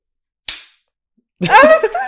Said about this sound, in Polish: Guys, z racji tego, że co odcinek musimy klaskać dla naszego Kacpra montażysty, tak, żeby łączył audio, zakupiliśmy profesjonalną, jak to się nazywa? Klaps.